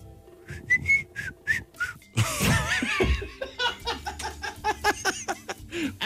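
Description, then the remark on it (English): A person whistles a few short, breathy notes, then bursts of loud laughter break in, with more scattered whistle blips and chuckles continuing underneath. “You made a whistling noise.”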